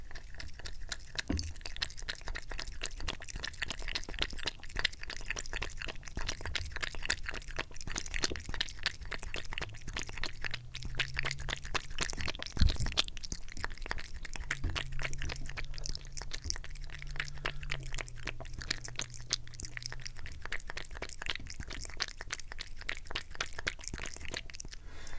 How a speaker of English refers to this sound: And now, the pouring of the kitty water. Here we go. Pour it. Yes, and she's drinking. Let's listen to my cat drink.